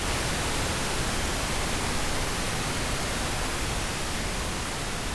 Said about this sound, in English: Her brain waves would have sounded like this.